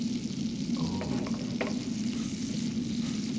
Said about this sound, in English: Oh. Is that bacon frying?